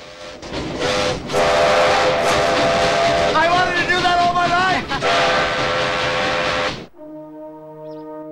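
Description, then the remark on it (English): A steam locomotive engine, uncoupled from the rest of the train, roars and hisses steadily as it chugs away in a new direction while a man shouts excitedly over it, then the noise drops away and a clear, sustained multi-tone steam whistle sounds alone at the end. “The engine chugs away in a new direction, leaving the other carriages behind.”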